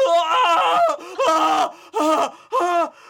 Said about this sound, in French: Vieux papa. Il veut dire quelque chose? Attends, attends, un instant. Il crie. Il crie.